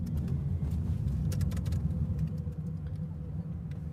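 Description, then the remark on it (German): A steady low rumble of a car driving toward Poznań, Poland, heard from inside the cabin, with continuous road and engine drone and faint scattered clicks on top, no one speaking. “Bei uns im Auto Richtung Posen ist es jetzt Zeit, das Signal genauer zu orten.”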